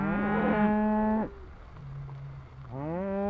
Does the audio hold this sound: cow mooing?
yes